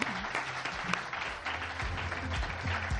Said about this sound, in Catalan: Un fort aplaudiment per als tenistes.